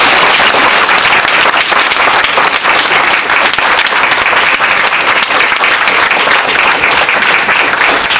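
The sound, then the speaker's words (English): A sustained round of applause from a large audience for the loving and supportive parents and family, loud and steady throughout with dense overlapping claps, no voices standing out. “But before that, I just want to actually have a round of applause for all the loving and supportive parents and family.”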